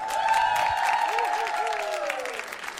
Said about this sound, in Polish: Dla szóstki żółtej brawa.